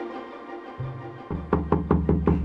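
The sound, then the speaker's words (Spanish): Knocking on the door of the house of the owner of the sun, in a told story: about five evenly spaced, fairly loud thuds in a quick steady rhythm, with a deep wooden body, following a short stretch of soft low hum. “¿Quién toca mi puerta?”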